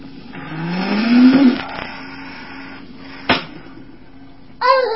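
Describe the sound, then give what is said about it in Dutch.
A race car engine revs up with a rising whine for about a second, then fades into a low hum. A sharp click follows, and a brief voice comes in at the end. “Dit is de raceauto.”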